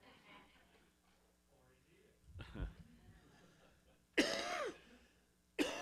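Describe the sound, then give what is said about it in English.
Loud coughing from a teacher not yet over an illness: a rough throat clearing, then a harsh, sharp cough and a second one cut off at the end, after a few seconds of quiet low murmuring. “There will be some of that coughing today because I am not over that yet.”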